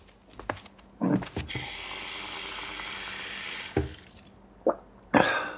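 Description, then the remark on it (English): A few light clinks, then a steady stream of tap water runs into a glass for a couple of seconds before stopping, followed by a couple more soft knocks, as a parent gets a glass of water in a California Closets advertisement. Clear, with no talking. “Take this moment of a parent walking across their toy-filled living room for a glass of water.”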